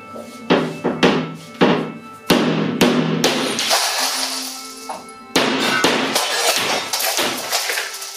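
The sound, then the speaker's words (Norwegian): A hammer strikes a 2x4 mm glass pane with an energy coating on the inner side several times in quick, uneven blows, followed by loud cracking and shattering glass with debris rattling, then another sharp smash near the end. “står en kar klar med en hammer for å slå.”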